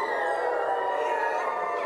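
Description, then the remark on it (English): A person imitates a wolf howl on request during a group animal-imitation game: one long, sustained, fairly high-pitched cry with rich harmonics that wavers only slightly in pitch and holds steady in loudness for about two seconds. “We got real wolves in here.”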